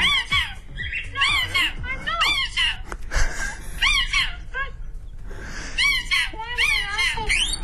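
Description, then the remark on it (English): A pet bird named Para screams and squawks insistently to be fed green grapes, a near-continuous run of shrill, rising and falling screeches with only brief pauses between bursts. “Screams until it gets green grapes, which are $15 a kilo.”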